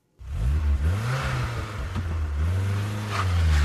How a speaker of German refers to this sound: Keine gute Idee, so loszufahren. Der Motor mag es nicht und schon gar nicht die Reifen. Die werden da ganz besonders abgerieben.